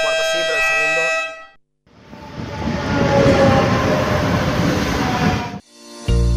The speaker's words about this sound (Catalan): Sents intranquil·litat amb l'arribada del tren?